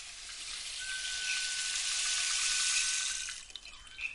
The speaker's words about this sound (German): Wir sind im tiefen Dschungel Afrikas. Es ist heiß und schwül. Der Regen tropft von den Bäumen.